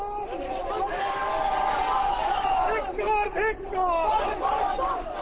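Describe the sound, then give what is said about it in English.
A crowd of protesters on a street march in Kolkata, West Bengal, India, shouts slogans against the state's communist government during an opposition shutdown, many voices together in a steady, loud roar, with overlapping cries rising and falling and no clear single speaker. “Sporadic clashes erupted between police and opposition activists as protesters staged street marches in Kolkata and elsewhere, shouting slogans against the state's communist government.”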